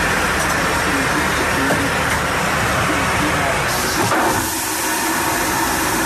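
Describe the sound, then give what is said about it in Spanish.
A powerful ship toilet flushes with a loud, steady rushing hiss that surges in a sharp burst near the end, then eases slightly as the roar continues. “Sí, es como el baño de barco. También, pues no va directamente ya. Al océano.”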